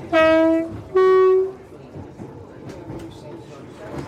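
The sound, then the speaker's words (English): A battery-electric passenger train sounds two loud, sustained horn blasts in quick succession, then settles into a quiet, steady running rumble with faint voices in the background. “Happy passengers on the battery train”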